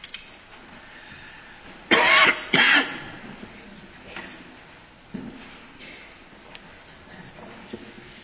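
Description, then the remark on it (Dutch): Two short, dry coughs close together, fairly loud, from a preacher during a church service, followed by quiet with faint background rumble and no talking. “Ook dat is blijkbaar weer een gewoonte, want vanmorgen in de dienst op diezelfde tijd begon dat kuchje ook.”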